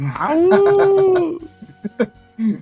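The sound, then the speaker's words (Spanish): A man lets out a loud, drawn-out vocal howl imitating a wolf, the note rising and holding for about a second before fading, followed by a few brief scattered sounds. “Y sobre todo cuando aúlla.”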